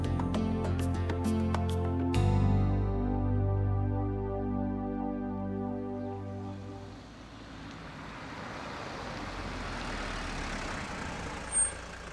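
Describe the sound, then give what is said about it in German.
A car engine rumbles with a steady low hum, then settles into broad hissing road noise as it pulls up and comes to a stop, with a brief sharp sound near the end. “Ein Auto hält.”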